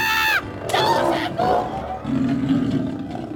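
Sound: bengal tiger roaring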